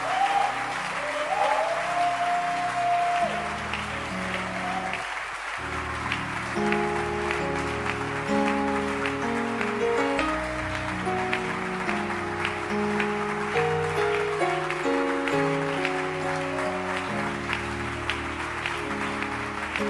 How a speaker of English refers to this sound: But I said you should clap your hands, and we are going to do that just to thank God that of all the places you could be, you are standing in church. Now clap your hands.